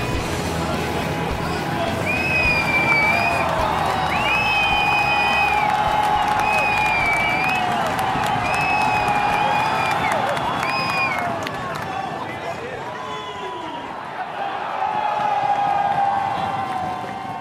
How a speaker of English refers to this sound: what was that very enthusiastic crowd noise?